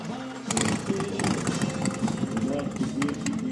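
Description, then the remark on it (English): Several motorcycle engines idle in a steady, throaty rumble that starts after a brief pause and holds level, with indistinct voices murmuring in the background; dozens of motorcycles parked at Harold's Corral, an old West eatery in Cave Creek. “Dozens of motorcycles are parked at Harold's Corral.”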